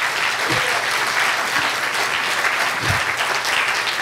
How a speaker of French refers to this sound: On peut donner une bonne main d'acclamation à Dieu.